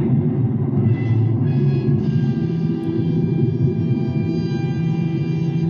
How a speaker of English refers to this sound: And just then, a storm started.